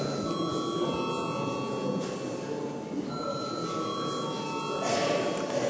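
A voting bell rings continuously in a parliament chamber, rung to call deputies to vote on a committee proposal, a steady, bright electric tone that holds for several seconds over a soft background murmur of the room.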